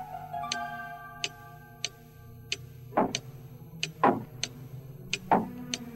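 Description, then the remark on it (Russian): A mantel clock above the fireplace ticks steadily at an even pace, the crisp clicks clear over a low hum, with a few duller, louder knocks mixed in. “Стучали только часы над камином.”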